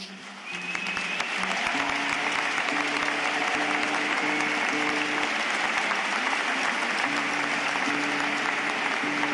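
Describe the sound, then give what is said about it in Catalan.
Enthusiastic crowd applause fills the cathedral of Tortosa during a church gathering, a dense, steady roar of clapping that swells in after a quiet start and holds loud throughout, with faint sustained tones beneath it. “L'entusiasme, com podeu sentir, és molt present aquí a la catedral de Tortosa.”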